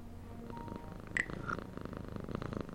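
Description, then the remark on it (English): A cat by an open window purrs steadily in a low, rhythmic rumble, with a couple of brief higher-pitched chirps partway through. It sounds fairly soft, with no talking. “There's a cat by an open window up there.”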